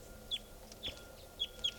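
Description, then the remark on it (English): A wild red male bird, down in a tree near a truck, gives four short, sharp, high-pitched calls at uneven intervals over a low, steady background rumble, with no talking. “That was the wild bird there.”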